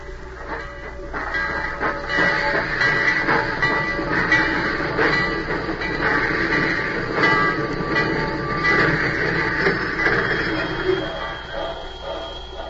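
A train rumbles steadily along its rails, a dense, continuous clatter and roar, with faint metallic squeals riding over the noise for the whole stretch.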